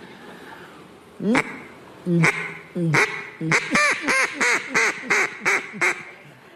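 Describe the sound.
A voice imitates a duck, quacking loudly and nasally: a few spaced quacks, then a rapid run of about eight in a steady rhythm, with no other sounds.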